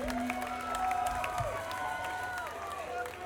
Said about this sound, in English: thank you all for coming out tonight. Give yourselves some applause for coming out for the show.